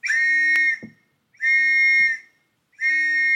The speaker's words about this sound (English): And to commemorate what we'd done, he himself blew his father's whistle 3 times, just as he imagined his father doing all those years ago.